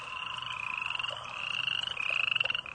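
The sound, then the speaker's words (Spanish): A dense night chorus of croaking frogs mixed with a steady, high-pitched trilling of crickets, continuous and fairly loud throughout, with no voices. “El canto de las ranas y de los grillos.”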